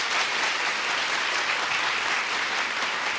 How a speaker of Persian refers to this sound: البته کمک نقدی قابل توجهی هم به صندوق حمایت از زنان بی سرپرست و بد سرپرست شهرمون کردن که جا داره تشویق حسابی بکنیم.